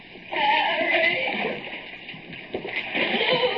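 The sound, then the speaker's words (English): Water sloshes and splashes steadily in a flooded tunnel, a continuous churning with louder surges near the start and toward the end, as someone wades through chest-deep water. “Water lapping snugly at my chest.”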